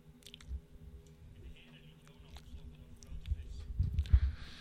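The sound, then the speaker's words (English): Wet chewing and squishing sounds, low, building toward a louder burst of gulping, squelching noises near the end, with faint clicks above, as a big fish swallows Jonah whole. “A great animal was swallowing him completely.”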